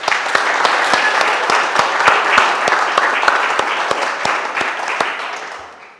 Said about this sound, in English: And I am so pleased that Tiger Club and Extreme are part of our church family and our community. And I'd like us to all just show our love for them with one last round of applause.